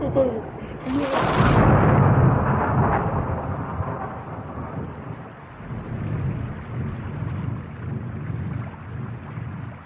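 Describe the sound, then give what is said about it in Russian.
A sharp, loud thunderclap bursts in near the start, then rolls off into a low rumble while steady, heavy rain keeps hissing throughout. “Внезапно дождь кончился”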